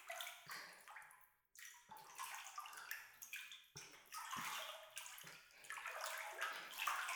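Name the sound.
water sloshing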